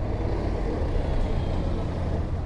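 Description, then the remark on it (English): A bus with air brakes drones with a steady, heavy low rumble and a faint high whine above it, holding an even loudness throughout with no voices. “Rox and Emmanuel are on a bus.”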